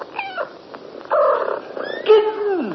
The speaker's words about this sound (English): Kittens. Four pretty little kittens. Dear me, it looks as though we're going to have to call you Delilah in future.